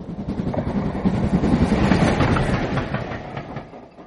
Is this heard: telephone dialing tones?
no